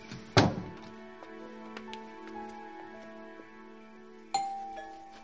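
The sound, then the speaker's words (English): A doorbell chimes twice, a few seconds apart, each strike leaving bright ringing tones that hang and slowly fade. No one speaks. “Look, give me a minute to go upstairs and then ring the bell.”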